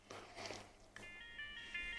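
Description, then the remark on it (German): After a second of soft rustling noise, a phone ringtone starts: a steady, high-pitched electronic melody of bright sustained tones that shifts note partway through and plays on with no talking. “And then we have a ringtone.”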